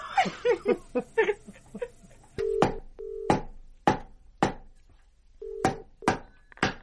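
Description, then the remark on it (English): A short burst of giggling gives way to a telephone being dialed to call someone's father: about eight crisp button clicks in an uneven rhythm, a few carrying brief keypad beeps. “go on, phone your dad.”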